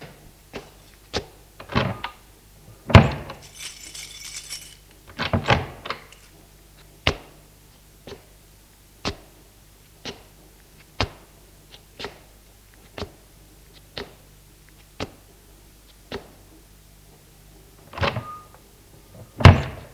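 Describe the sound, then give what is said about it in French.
A front door is opened with a few clunks and rattles of the latch, followed by a steady series of sharp knocking footsteps going down the stairs, no voices present. “Il ouvrit la porte d'entrée et descendit les escaliers.”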